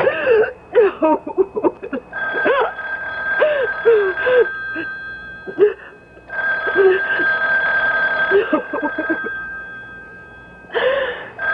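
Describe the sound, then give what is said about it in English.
A telephone rings in two long, steady electronic bursts, loud and insistent, while someone gasps and whimpers in short breathy sobs before and between the rings. “You know you have to answer, darling. You know. Don't ever hang up on me again. I'll keep calling back.”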